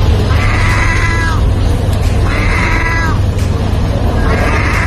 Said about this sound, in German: das ist wirklich keine Katze, sondern eine Möwe